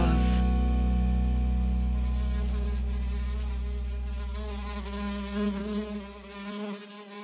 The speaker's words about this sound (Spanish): Me parece que he visto una mosca fugaz.